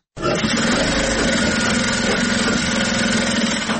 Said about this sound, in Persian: ماشین های خیاطی برقی در یک سالون کلان بر میزهای مخصوص گذاشته شده و دختران توسط آن لباس می دوزند. برخی از دختران با ماشین های خیاطی کار می کنند، برخی اتو در دست دارند و لباس های تازه دوخت را اتو می کنند